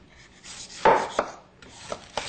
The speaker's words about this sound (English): Now, I've pre-baked the butternut squash for about 15 minutes just because it makes it a lot easier to get the skin off. So now I've got the butternut squash. I'm going to remove the skin.